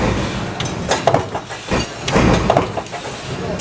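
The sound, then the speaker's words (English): A huge factory stamping press pounds in a steady rhythm, relentlessly stamping out metal parts, with loud metallic thuds and clanks repeating about every second over a constant mechanical rumble and hiss. “The factory is full of these huge presses just relentlessly stamping out parts.”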